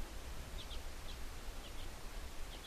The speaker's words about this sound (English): For a few minutes, the only thing we hear is the occasional shuffle of our parkas as we shift in the snow. A few birds calling from the brush.